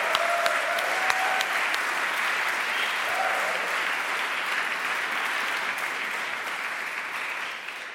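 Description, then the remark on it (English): A crowd at a Jazz Carols concert claps for the musicians in steady, dense applause that holds at an even loudness for the whole stretch, with a few brief whistles or cheers rising above it. “So should we give the musicians a clap?”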